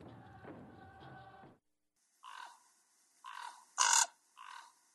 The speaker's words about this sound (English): Surely the ravens of Juno have been squawking all about this.